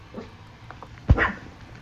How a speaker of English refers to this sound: You see the dog outside the window, so... It's very exciting.